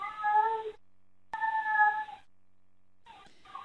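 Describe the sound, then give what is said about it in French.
A cat, Loustic, meows plaintively three times at night as the house door closes behind ambulance workers, long drawn-out wails separated by short pauses, fairly loud with no other sounds around it. “Cette nuit-là, quand la porte de la maison s'est fermée sur les ambulanciers qui m'emmenaient aux urgences, il s'est mis à pleurer.”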